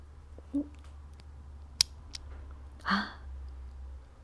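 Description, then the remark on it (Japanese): A small lock clicks shut with a key: a sharp metallic snap, a lighter tick, then a brief scraping rattle, against a quiet background hum. “じゃあもう鍵かけちゃおうっと。”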